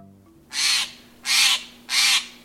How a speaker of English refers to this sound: As December days shorten, you may wonder where birds, including this Steller's jay and others, spend the long, cold nights.